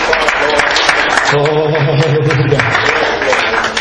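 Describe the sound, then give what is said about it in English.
A church audience claps together in praise of a preacher in a dense, steady burst of applause, with a sustained low musical tone and some voices rising underneath partway through. “Let's give him another hand clap of praise to him.”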